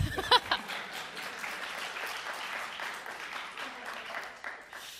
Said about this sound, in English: Please clap.